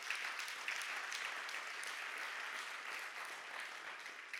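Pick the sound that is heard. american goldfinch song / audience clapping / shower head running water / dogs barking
audience clapping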